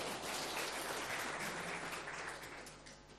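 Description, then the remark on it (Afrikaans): A crowd of people claps steadily for a few seconds, a dense wash of many hands that stays loud, then gradually thins and fades toward the end. “Right, julle kan nou gaan sit, klap vir hulle lekkere hande.”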